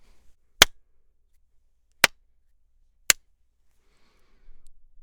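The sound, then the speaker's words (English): Three sharp, crisp hand claps ring out against near silence, unevenly spaced with a longer gap after the first, followed by a faint low rumble at the very end. Recorded dry in a studio with no post-processing, through an SSL2 interface at about 11 o'clock gain. “And here's a clap.”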